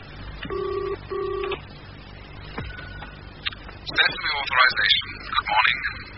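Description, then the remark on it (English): A telephone ringing tone sounds on the line as one double burst of steady buzzing, fairly loud and clear, on a call to an emergency plumbing service, followed by a pause and then a person starting to speak. “It's ringing.”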